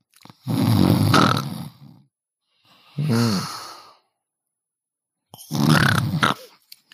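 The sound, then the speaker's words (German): A person imitates a woman's loud snoring, three drawn-out rasping snores with breathy gaps of silence between them, with no talking. “Ist krass, meine Mutter schnarcht genauso.”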